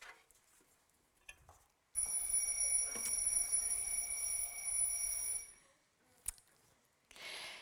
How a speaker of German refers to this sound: Jeden Morgen läutet bei mir, und ich nehme an, bei euch alle den Wecker.